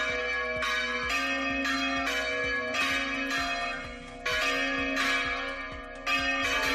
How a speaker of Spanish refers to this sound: Las campanas de toda la región repicarán al unísono como representación del clamor popular contra la despoblación y el abandono que sufren nuestros pueblos.